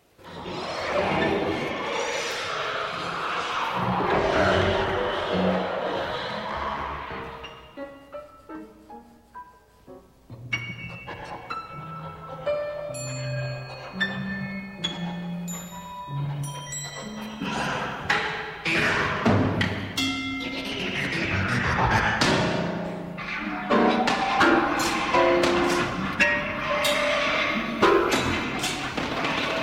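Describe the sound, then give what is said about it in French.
Music produced almost entirely with electricity, with dense, swelling textures, bright bell-like tones and scattered percussive hits, with a few piano notes. It quiets briefly midway, then builds again. No one speaks. “Voici donc une musique qui est produite presque intégralement, puisqu'il y a quelques sons de piano et de percussion, mais dans sa fondation, qui est presque intégralement produite grâce à l'électricité.”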